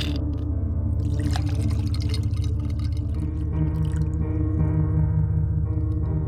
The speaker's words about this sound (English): I poured another whiskey.